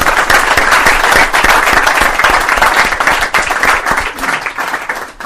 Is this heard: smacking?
no